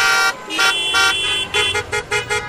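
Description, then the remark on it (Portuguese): Car horns honk repeatedly in busy traffic, several overlapping blasts of varying length, loud, with a steady hum of vehicles underneath and no talking. “O trânsito está intenso aqui no estúdio da Rádio Nacional.”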